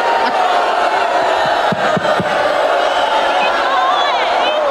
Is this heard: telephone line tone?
no